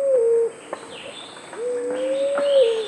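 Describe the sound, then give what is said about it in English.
A fruit dove, a forest-dwelling dove of the South Pacific, gives two low, hollow coos: a short one, then a longer, drawn-out note that swells slightly. The calls are clear, with no talking. “Today on Bird Note, fruit doves, one gorgeous group of birds.”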